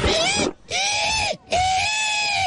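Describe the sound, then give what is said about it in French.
A voice imitates a pig having its throat cut: three loud, shrill, drawn-out squeals in quick succession, each strained and wavering, with only brief gaps between them. “Mais moi, je suis sur le cochon égorgé, en train de se faire égorger.”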